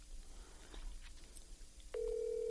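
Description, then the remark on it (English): A steady electronic ringback tone starts abruptly near the end and holds loud and even, the sound of an outgoing phone call to a man's phone ringing on a Friday night, after a stretch of faint background noise. “I got his phone ringing.”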